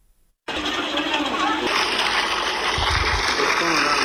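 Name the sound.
water pump gushing water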